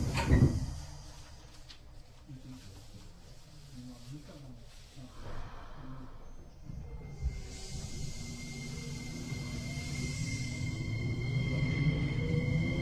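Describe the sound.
Train doors slide shut with a pneumatic hiss as the train departs, then a low rumble swells steadily as the train starts moving; its next station is Heiwadai. Muffled voices sit faintly in the background.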